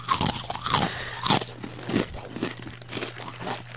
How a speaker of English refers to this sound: That's some good ASMR. Is that a bag of chips? Sorry, I'm just eating my...